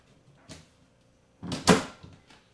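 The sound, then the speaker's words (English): A cupboard door is opened with a light knock, then swung shut with a louder, sharp wooden clunk, followed by a faint rattle, as a container of cooking oil is put back in the cupboard. Nobody speaks. “Put the oil back in the cupboard.”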